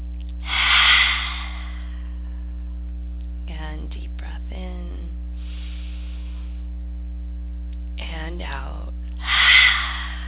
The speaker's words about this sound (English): Few more deep breaths in and out. Deep breath in.